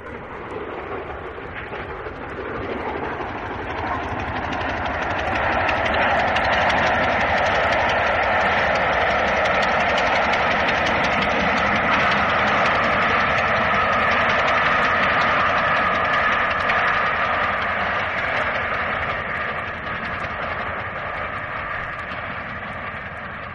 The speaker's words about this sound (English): It's quite obvious when you listen to the sound of the locomotive running through Reading that something is rather strange. You can hear this peculiar tick on the beat of the locomotive as it's running.